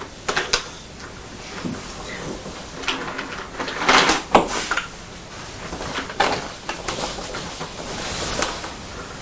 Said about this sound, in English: What's going on? Well, it looks like the train's run into some trees.